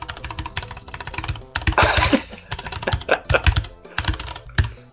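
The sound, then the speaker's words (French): Rapid, uneven clacking of keys on a computer keyboard, fairly loud, with bursts of fast typing and brief pauses, no voices. “Donc, tu vas entendre mon clavier, c'est pas grave.”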